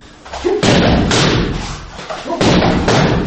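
Taekwondo kicks by a 17-year-old Balkan taekwondo champion land in a quick series of loud, dull thumps at the family home during the New Year holidays, about four heavy strikes in an uneven rhythm, each a broad punchy impact with little ring afterward.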